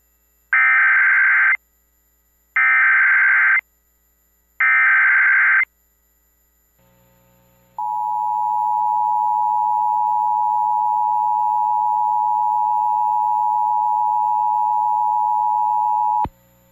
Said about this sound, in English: This is a test of the emergency alert and notification system for Duke Power Company's Oconee Nuclear Station. This message accompanies the testing of the sirens installed in the 10-mile area around the station.